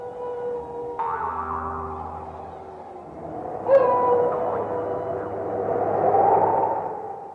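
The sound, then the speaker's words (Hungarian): A voice imitates a wolf howl, a long wavering cry that swells and slides in pitch over several seconds, fairly loud, with no other talk. “Legyek csimbókos, szőrű, ordas farkas, így.”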